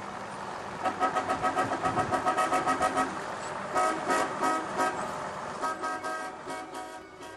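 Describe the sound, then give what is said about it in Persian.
A car engine cranks and turns over with a rapid, pulsing rumble as someone gets into the car, followed by a few loud horn toots, with no voices. “سوار ماشین شد، گفتیم ما رو میرسونی تا وسط شهر؟”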